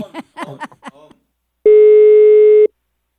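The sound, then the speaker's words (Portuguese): A voice speaks briefly, then a loud telephone busy tone sounds alone: one steady, mid-pitched buzzing beep lasting about a second after a dropped call. “Ô, até a ligação caiu”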